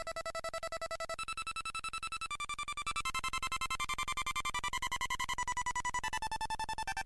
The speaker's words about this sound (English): he'll program a microchip and then connects it to a speaker and we'll have all these different one bit sounds going on.